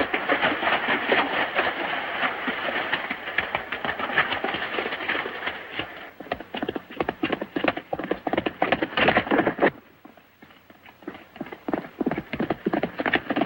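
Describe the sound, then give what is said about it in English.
Rapid clip-clop of horse hooves at a steady gallop as a rider takes the horse through a valley along a small creek running parallel to the road, over a dense rushing background, loud, easing to sparser, quieter hoofbeats near the end; no one speaks. “Rod rides through the valley and takes his horse along a small creek that runs parallel to the road”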